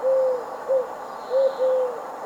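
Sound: eagle owl hooting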